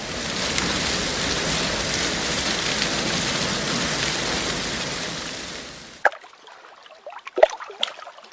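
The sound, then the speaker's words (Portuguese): Shower water runs in a loud, steady hiss for about six seconds, then shuts off abruptly, leaving a few scattered drips and small knocks in the quiet. “Quero tomar banho, um banho da hora.”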